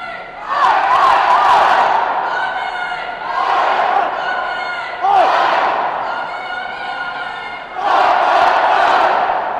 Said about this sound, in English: That's it, we're just going over the Tyne Bridge. The atmosphere is absolutely amazing. Oggy, oggy, oggy, oi, oi, oi, all the way through the tunnels. Hand claps, cheers, even a few woof, woof whistles.